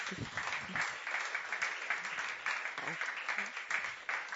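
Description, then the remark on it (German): A crowd applauds steadily, a dense wash of many hands clapping at even volume throughout, sounding like a sizable audience welcoming the evening's guest at a show. “darf ich Sie um einen Applaus bitten?”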